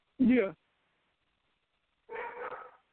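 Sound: dogs barking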